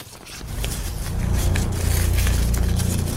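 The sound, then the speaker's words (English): Steady rustling and crinkling of paper slips being stirred inside a hat to mix them before drawing a name, with a continuous scratchy texture, brief crisp flicks, and a heavy low rumble underneath. Nobody speaks. “That's good rustling, bro. That's really good rustling.”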